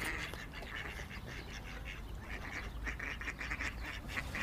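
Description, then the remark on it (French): Mallard ducks, a male and a female, quack repeatedly in short, uneven bursts, some overlapping, among rocks and boats with masts, over a steady background rumble, with no one speaking. “Et il y a bien sûr des canards. Alors là, on croise monsieur et madame Colvert, donc on en a déjà parlé plusieurs fois dans cette émission.”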